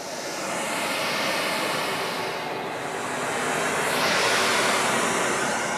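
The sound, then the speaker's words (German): Broad, steady rushing noise fills a hall as the sound system is calibrated, its tone slowly shifting and swelling as it sweeps once in a circle through the hall like a stadium wave, resembling several leaf blowers running at once. No voices. “Was so klingt wie mehrere Laubbläser auf einmal, misst die Tonanlage ein.”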